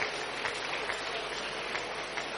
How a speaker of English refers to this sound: Keep clapping, keep clapping. You are clapping for Jesus. You are clapping for Jesus. You are clapping for Jesus.